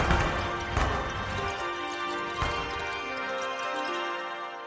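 Sharp, crackling fireworks-like bursts, representing a blast wave in a data sonification, go off a few times at irregular moments, layered over sustained, shimmering string-like tones converted from brightness in Chandra data that ring steadily throughout.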